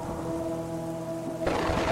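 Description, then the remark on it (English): Steady rain hisses beneath a low humming drone in dark woods, then a sudden, louder rumble of thunder breaks in near the end and swells into a broad crash. “Just more woods, more rain, and more darkness.”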